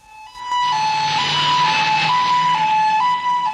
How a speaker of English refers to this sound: He waits for the police car to pass, then, crossing the road, pauses to light a cigarette.